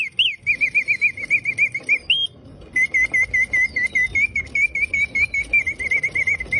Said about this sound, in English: I have to tell you, I brought this thing home. It's like 100 years old. I wound it up, set it on the ground, and this little bird sounds exactly like a real bird.